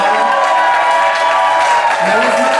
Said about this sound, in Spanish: Ah, bien con su mamá que está aquí el día de hoy, su mamá, un aplauso.